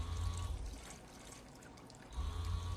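A man urinating at a urinal: a steady, hissing stream of liquid splashing into the bowl, fuller and louder at the start and again at the end, with no talking.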